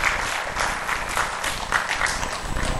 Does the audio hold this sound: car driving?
no